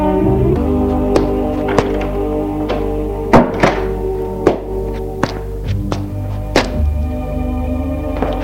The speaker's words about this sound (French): Il la fait entrer et ferme la porte.